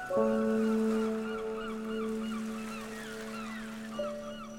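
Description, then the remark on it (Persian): Seagulls flying overhead at the seashore cry in a quick string of rising and falling calls over a loud, steady low horn drone that holds throughout, with a brief swell near the end. “هیچکی نیست، جز من ساحل و مرغای دریایی که ازم خجالت بکشن.”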